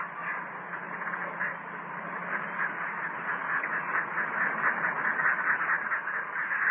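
A flock of vultures calls while feeding, a steady, dense chatter of harsh squawks and grunts that stays continuous throughout, with no one speaking.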